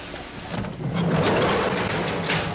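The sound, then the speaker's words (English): A heavy door of a stone pump house grinds and creaks open over a couple of seconds, a low scraping groan rising above steady background rushing noise, fairly loud. The pump house, at an old state fish hatchery on the banks of the St. Lawrence, keeps fresh river water running into fish ponds. “opens the door to a stone pump house that keeps a steady supply of fresh river water running into the nearby ponds.”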